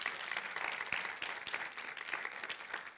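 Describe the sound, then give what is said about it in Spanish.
Steady audience applause for the Lord fills the whole stretch, a dense wash of many hands clapping at an even, sustained loudness with no voices over it. “Denle un fuerte aplauso al Señor, claro que sí.”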